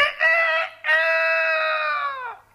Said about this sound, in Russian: Закричала ослиная голова. Вы, конечно, понимаете, что осел только открывал рот, а кричал спрятавшийся под окном петух.